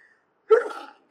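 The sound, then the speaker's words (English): A single sharp sneeze bursts out, loud and breathy, fading quickly after about half a second; no talking around it. “Bless you.”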